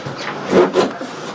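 Two quick knocks on wood, moderately loud, with a hollow, slightly scraping tone, spaced about a quarter second apart over a quiet background.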